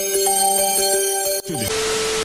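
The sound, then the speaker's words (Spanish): A loud electronic telephone ring plays steady, pulsing tones, then cuts off into a short sliding beep and a burst of harsh static hiss. No one speaks. “está marque, marque. Sale, pásame el teléfono.”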